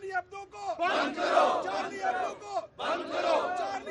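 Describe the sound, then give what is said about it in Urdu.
A large crowd at a religious parties' protest rally in Pakistan chants slogans against France over the publication of a cartoon, in loud, rhythmic unison, voices rising together in two long bursts with a brief pause between them. “ان مظاہروں میں فرانس کے خلاف نعرے بازی اور خاکے کی اشاعت پر جریدے کی سخت الفاظ میں مذمت کی گئی.”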